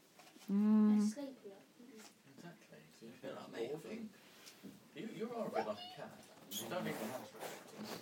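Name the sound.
cats meowing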